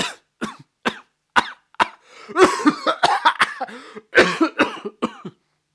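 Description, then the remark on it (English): A narrator acts out a young man coughing uncontrollably: a quick run of sharp coughs, then a longer, harsher burst of hacking and throat-rasping without words. “Then the young man started coughing uncontrollably.”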